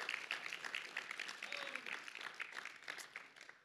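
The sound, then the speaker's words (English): An audience gives the Lord a praise clap, a dense, steady burst of many hands applauding together with a few faint voices calling out underneath. “Come on, let's give the Lord a great big praise clap.”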